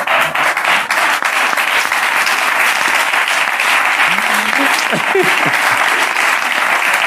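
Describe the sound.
Loud, continuous applause fills all seven seconds as a dense, steady patter of clapping, with faint voices briefly rising underneath it partway through.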